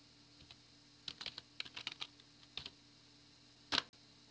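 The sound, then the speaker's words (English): Quick bursts of keyboard typing while searching on Google, a cluster of crisp key clicks followed by a few scattered taps and one sharper, louder keystroke near the end, over a faint hum. “All right, hold on, I'm Googling It's hard to see on this other paper.”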